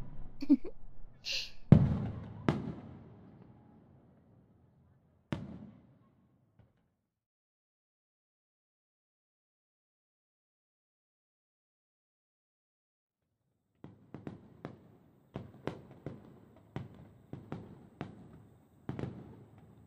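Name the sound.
fireworks exploding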